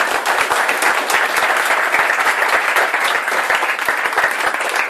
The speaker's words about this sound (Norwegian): Gi henne en skikkelig applaus.